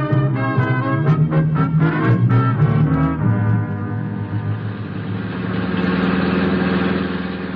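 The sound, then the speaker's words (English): A car engine in the radio drama Dangerous Assignment chugs in uneven, throbbing bursts for a few seconds, then settles into a steady idling rumble with no voices. “My poor car.”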